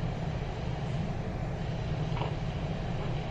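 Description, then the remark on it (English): A toy model train runs steadily, giving a continuous low mechanical rumble and hum with a faint rattling texture, holding an even loudness throughout with no voices. “Yeah, oh, look, it looks like a Lionel set or something.”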